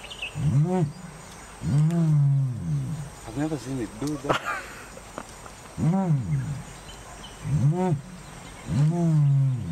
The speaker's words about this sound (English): closed-mouth vocalizations are emitted through the skin in the neck area, while the beak is kept closed